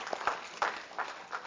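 Faint, scattered clapping from an audience giving the Lord a clap after a healing testimony, a few broad claps landing at a fairly even pace with soft crowd murmur underneath and no clear speech.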